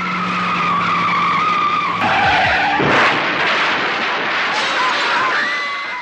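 A Mazda RX-7 sports car roars past at about 120 km/h with tires skidding and squealing loudly, the engine whine rising and shifting over several seconds, with a harsh burst of noise midway through.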